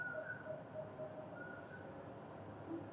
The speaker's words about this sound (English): Still not that close, but he's sort of close. Common porwell, that's actually a night bird. There's a family called nightjars that make similar to owl sounds.